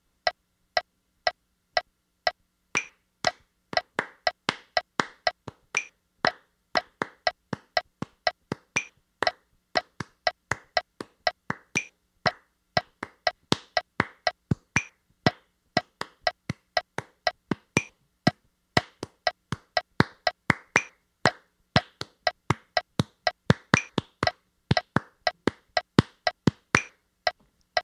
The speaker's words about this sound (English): What I really recommend is that you sit with the metronome and count it and clap it. So, you know, just put it on. I'll clap it with you. Here's 120 beats, so it's quick. See if you can keep up.